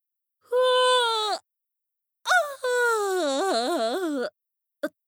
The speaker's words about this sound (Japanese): やっぱ思いっきりあくびしてんの見られちゃった